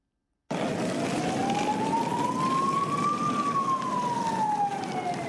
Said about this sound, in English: The wailing of sirens were all that could be heard on the streets of Brussels this morning.